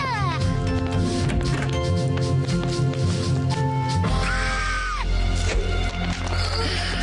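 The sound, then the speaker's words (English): A vacuum cleaner starts up after a jumble of busy cartoon noises, settling into a steady low roar with a brief rising-and-falling whine riding on top. “It's only the vacuum cleaner.”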